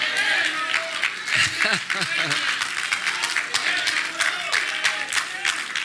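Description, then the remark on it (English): An audience claps steadily for several seconds, a dense, continuous patter of many hands, with a few voices calling out and shouting over it partway through. “I'm preaching better than y'all clapping.”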